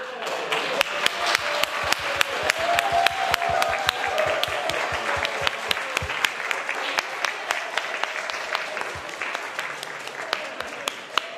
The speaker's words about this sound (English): So I just want to ask all the people that are on the board in the room to stand up for a second so we can clap for you.